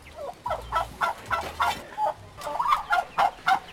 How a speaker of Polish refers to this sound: Łatamy płot, żeby nam kury nie uciekały. Bo te malutkie uciekają.